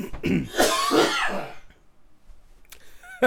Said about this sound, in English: I won't sneeze, but I will cough a lot.